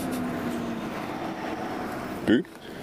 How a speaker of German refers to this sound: Ich höre ein Auto, sehe aber keins. Verwirrend.